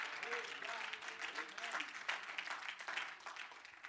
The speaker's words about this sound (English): Can somebody clap your hands to the Lord?